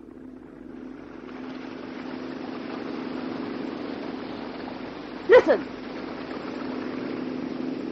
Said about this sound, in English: That's a boat! A motorboat coming this way!